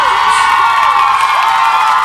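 A loud, dense crowd roar of shouting and cheering, sustained throughout with many overlapping voices and whoops, as a packed concert audience responds enthusiastically to the singer's call to shout.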